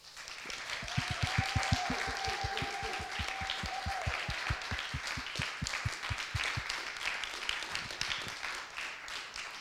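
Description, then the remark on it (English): An audience claps together as a thank-you in a fast, steady rhythm of about five claps per second for nearly ten seconds, with a held whistle-like note rising over the clapping early on. “So, shall we say a massive thank you and give them a big, big, big clap?”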